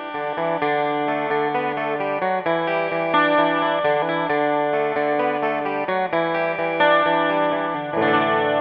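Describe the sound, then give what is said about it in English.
A jangly Rickenbacker 12-string electric guitar plays a bright, chiming riff, its notes ringing into one another at a steady, even loudness with no voices. “Here's Shelby playing that riff so you can hear the Rick in isolation.”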